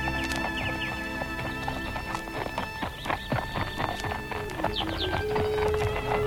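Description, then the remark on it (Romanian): Stallions' hooves clip-clop in a steady, busy rhythm, moderately loud, with a high whinny or squeal rising briefly near the end over a constant background hum. “Ia stați! Stați! Opriți armăsarii!”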